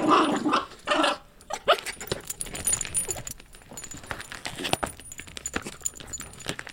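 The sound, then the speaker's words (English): A dog in Brooklyn growls in short, rough bursts while scratching and rattling sounds of it tearing at a canvas it paints on with its paws fill the background, with no one talking. “You know, she's very aggressive and she sort of goes at it and attacks it.”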